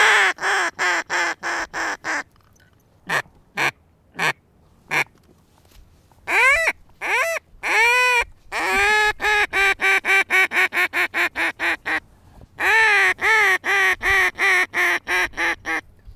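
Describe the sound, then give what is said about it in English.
A goose call is blown in a rapid feeding call or gabble, imitating content geese feeding in a marsh: quick stuttering honks in bursts, some clusters tight and fast, others with a few longer drawn notes, loud with no talking. “he does demonstrate this with one of many goose calls”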